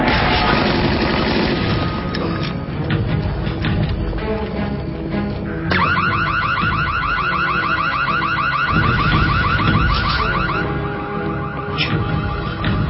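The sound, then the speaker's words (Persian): A loud, dense roar with heavy booms fills the first half, then a harsh danger alarm siren cuts in, warbling rapidly up and down in a steady repeating cycle over the rumble. “همونطور که فکر میکردم آژیر خطره.”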